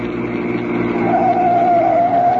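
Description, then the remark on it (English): A car engine hums steadily and grows slightly louder as it approaches, with a whining tone rising over the low rumble partway through. No voices are heard. “That was when I heard the sound of the car.”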